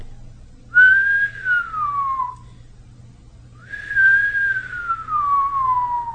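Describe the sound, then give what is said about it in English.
Two long, thin, delicate human whistles, each sliding slowly downward in pitch like a birdcall, separated by a short pause. Clear over a faint low hum, with no talking. “A very long and delicate whistle that is similar to that of a bird.”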